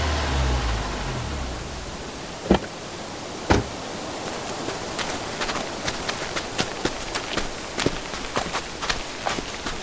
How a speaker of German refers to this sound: Dann tauchten plötzlich Lichter aus der Dunkelheit auf. Ein Wagen hielt und Autotüren wurden zugeschlagen.